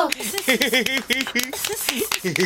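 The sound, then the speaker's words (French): Scattered hand claps ring out, mixed with voices laughing and chattering together in a brief, lively burst. “Ils applaudissent et rient ensemble.”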